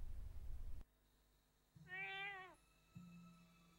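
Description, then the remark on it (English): A single cat, waiting outside a window, meows once, a clear, rising-then-falling call, following a brief burst of low rumbling noise and set against a faint steady hum. “Cat is waiting outside her window.”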